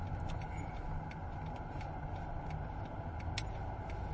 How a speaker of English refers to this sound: And I have a feeling that I am wrong and I've just got myself into this enormous, sad traffic jam. Oh my God, Father, but there's a roundabout for me to go around and join this huge traffic queue of doom.